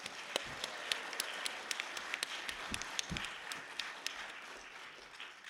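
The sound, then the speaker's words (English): An audience in a plenary hall applauds for making change on the climate change issue, a dense wash of many overlapping hand claps with sharper individual claps popping out, holding an even level for several seconds with no voices. “But can I have a round of applause for making that change in the climate change issue?”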